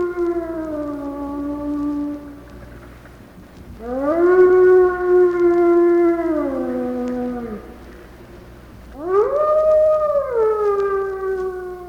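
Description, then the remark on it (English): Wild wolves howl in three long, sustained calls with sliding, harmonic-rich tones, each rising and then slowly falling, overlapping slightly, with no talking. “The wild wolves are almost gone.”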